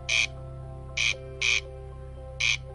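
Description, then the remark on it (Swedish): An endangered bird, one found at the Alla polder, gives four short, harsh squawking calls at irregular intervals, fairly clear, over a steady low droning hum in the background. “Alla polder är en mycket unik plats där denna utrotningshotade fågel också finns.”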